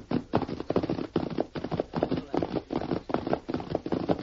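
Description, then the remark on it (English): A sorrel pony's hooves clip-clop as it is guided along a hillside trail leading to a ranch. The hooves beat in a steady, rapid rhythm of hollow, knocking sounds, repeating evenly at moderate loudness with no voices over them. “he guided his sorrel pony along a hillside trail that led to his ranch”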